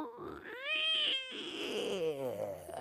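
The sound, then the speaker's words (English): A voice imitates a casket door creaking open: a strained, wavering tone that climbs in pitch, breaks off briefly, then groans and wobbles downward for about three seconds, with no talking. “Okay, a casket door opening.”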